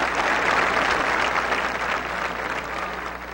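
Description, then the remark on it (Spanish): Sustained applause from a large crowd at a demonstration against kidnapping in a plaza in Valledupar, Colombia: a dense, steady wash of clapping that holds at an even loudness for a few seconds with no voices standing out. “Desde esta plaza de Valledupar, desde esta tribuna Francisco el Grande, hacemos llegar a todos los colombianos nuestra más sentida voz de gratitud, nuestro aplauso por esta gran manifestación hoy en contra del secuestro.”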